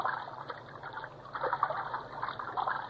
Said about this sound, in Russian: В море что-то заплескалось, поплавки дрогнули.